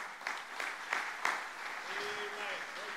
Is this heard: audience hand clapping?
yes